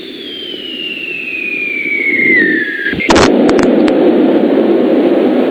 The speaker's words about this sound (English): They heard a massive explosion, which left them trembling. Father James McKay, who was leading the Sunday service, described seeing slate and white ice falling from the roof, damaging the structure and beams.